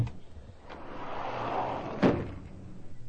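A jammed phone booth door is forced open by Hercules, with a straining, rattling scrape that builds for a couple of seconds and then gives way in one sharp bang, followed by a brief settling clatter.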